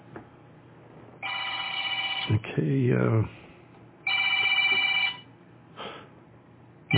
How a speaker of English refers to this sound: can't answer the phone now, brother.